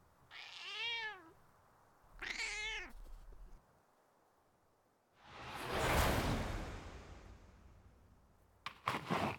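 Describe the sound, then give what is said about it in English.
A black cat gives two drawn-out meows a moment apart, followed by a loud rising and falling whoosh of air and a few brief rustling bursts at the end. “And you're shocked when a single black cat walks into view, looking at you as if it were the warden.”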